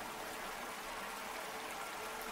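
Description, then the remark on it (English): A waterfall inside a cave rushes in a steady, unbroken, soft hiss, with no pauses or voices. “Once more, you hear the beckoning whisper and follow the sound to the waterfall.”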